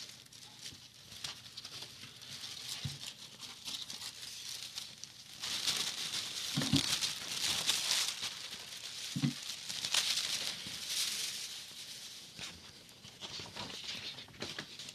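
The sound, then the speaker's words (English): A sheet of high-quality black paper printed with a map rustles and crinkles for several seconds, with soft irregular handling noises, a few brief taps, and louder bursts of crumpling in the middle. No one speaks. “We have a sheet of white paper here, folks.”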